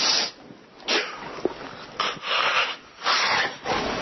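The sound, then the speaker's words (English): A person imitates a nervous yawn with a series of breathy, airy gasps and drawn-out exhales, fairly loud, repeating several times with short pauses and no talking. “But the more I've looked at it, it's a nervous yawn.”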